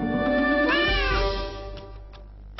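A single drawn-out meow from Nelli the cat in a Nelly cat food advertisement, fairly loud, rising then falling in pitch over about a second, followed by quieter background noise and a few faint clicks.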